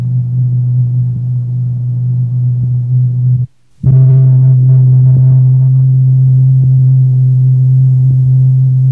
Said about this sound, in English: The note we hear is strong enough to originate all this turbulence, this impressive display.